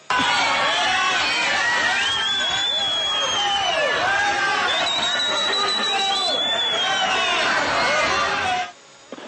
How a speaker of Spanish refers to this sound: Escuchemos a la comunidad cómo lo abucheó.